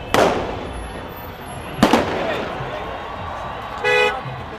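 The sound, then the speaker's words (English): Two sharp fireworks bangs crack out a couple of seconds apart over a steady street crowd din during a celebration in Egypt, followed by a brief car horn toot near the end. “But amid the fireworks and the music, there's bitterness too, bursting out as if it's been bottled up for far too long.”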